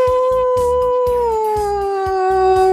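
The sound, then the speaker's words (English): A human voice imitates a wolf howl, holding one long, loud, medium-high note that slowly slides down in pitch, with a steady rhythmic thumping beat underneath. “How I hit a note and then I lowered it just like a little bit?”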